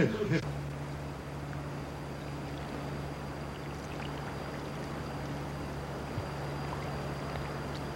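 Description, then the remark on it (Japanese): The broad Mekong River, flowing on the Thailand–Laos border 640 km north of Bangkok, rushes and flows steadily, a constant wash of sound, with a low droning engine hum running underneath throughout. “バンコクから北へ640キロ、タイ・ラオス国境に流れるメコン川です。”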